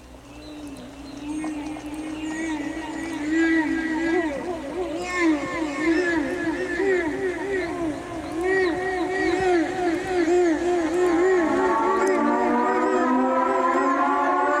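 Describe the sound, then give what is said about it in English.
Eerie, whale-like wails swoop and warble up and down over a sustained droning intro to the opening track of a 1987 rock album, layered and continuous, growing fuller and louder toward the end, with no voices. “Sounds like whale noises. It does sound like whale noises.”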